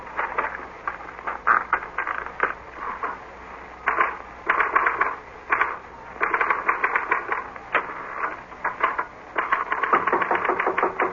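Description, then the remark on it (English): Rapid clacking of typewriter keys in uneven bursts, with brief pauses between flurries of strikes, moderately loud with no talking, as a note is copied onto the typewriter. “This is a note I want you to copy onto your typewriter.”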